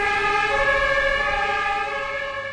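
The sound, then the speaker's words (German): A loud siren of an arriving ambulance, called by a coach for an injured player, wails steadily with a strong, sustained tone, fading slightly toward the end; no voices are heard. “Der Trainer rief den Krankenwagen. Der Krankenwagen kam sofort.”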